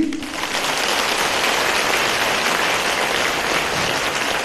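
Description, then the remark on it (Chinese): A crowd applauds steadily, a dense, even wash of many hands clapping that holds at a constant loudness throughout, with no voices standing out above it. “观世音菩萨把我们全部称为佛呀，你们鼓掌”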